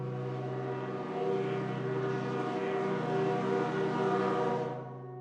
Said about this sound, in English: I was just reflecting on how dark it was when I heard a sound I will never forget for as long as I live. The long, lonesome wail of a steam whistle.